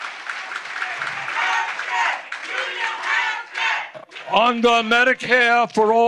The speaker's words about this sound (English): Not sure if you could understand those chants. The people interrupting Sanders were shouting union health care.